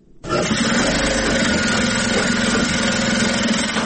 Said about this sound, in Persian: ماشین های خیاطی برقی در یک سالون کلان بر میزهای مخصوص گذاشته شده و دختران توسط آن لباس می دوزند. برخی از دختران با ماشین های خیاطی کار می کنند، برخی اتو در دست دارند و لباس های تازه دوخت را اتو می کنند